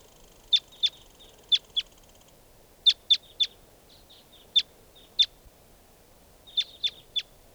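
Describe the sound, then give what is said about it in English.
Wild birds give short, sharp, high-pitched chirps in quick clusters of two to four, with brief pauses between groups, over a faint steady background hiss. No one speaks. “And more wild birds are coming around.”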